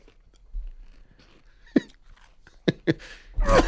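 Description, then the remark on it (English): A man chews spicy food on a tortilla noisily, then lets out several sharp, harsh coughs in quick bursts, ending in a loud, strained gagging retch. “He's coughing. Oh, now there's spit.”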